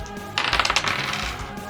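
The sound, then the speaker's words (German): Dice are rolled for a melee attack in a game, clattering across a hard surface in a quick burst of bright, rattling clicks that tumble and settle within about a second, moderately loud, with no voices. “Würfel auf Nahkampf, bitte.”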